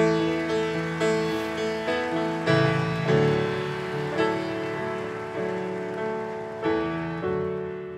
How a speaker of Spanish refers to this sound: Ah, bueno, si le van a aplaudir a él, apláudale bien, venga.